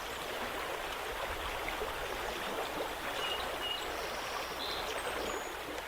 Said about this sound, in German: Oder sehen Sie vielleicht die hohen Berge, hören das Plätschern eines Flusses, genießen Sie die Natur?